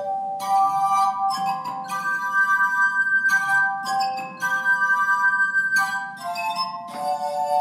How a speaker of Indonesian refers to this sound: Sejumlah pengunjung menikmati kesempatan untuk memainkan gelas-gelas terbesar.